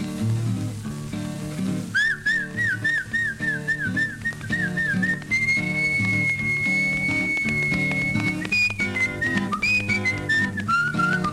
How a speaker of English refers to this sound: He said, uh-uh. I said, what do you do? He said, I whistle to her. I said, how do you whistle? He said something like this.